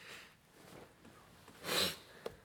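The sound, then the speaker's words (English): A sharp, breathy nasal sniff bursts out, followed by a tiny click; softer breathing noises drift in earlier. “And your your sniffing is excellent today.”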